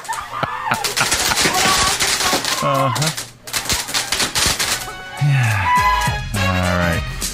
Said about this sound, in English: A family in Germany is going viral after accidentally lighting fireworks instead of birthday candles for an indoor celebration. Here's the moment that the fireworks started to go off.